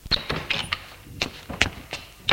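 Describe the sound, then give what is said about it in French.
An apartment door being opened, with a quick series of sharp clicks and dull knocks from the handle and latch, then a final thunk as it swings free. “Il ouvre la porte de l'appartement.”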